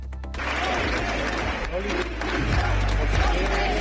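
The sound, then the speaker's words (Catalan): A crowd applauds steadily for a few seconds at the moment of the resignation of Andalusia's regional health minister over the suspicious mammograms scandal, a dense, continuous wash of clapping, with murmuring voices and some low rumbling mixed underneath. “Era amb aquest aplaudiments que d'una remassauen en moment de la dimissió de la consellera de Salut d'Andalusia per escàndol de les mamografies sospitoses”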